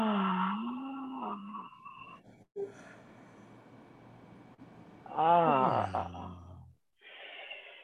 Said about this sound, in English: Last one. This time, yawn it out.